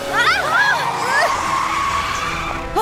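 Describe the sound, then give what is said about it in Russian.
A vehicle brakes hard to stop, with tires skidding and squealing, a loud screech that wavers in pitch for a few seconds, with a voice briefly heard over it. “Эту штуку надо остановить. Жми на тормоза.”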